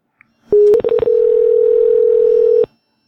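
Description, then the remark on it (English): A telephone line picks up with a sharp click, then a few quick clicks as buttons are pressed, followed by a loud, steady dial tone holding for about two seconds before cutting off abruptly. “If we call it.”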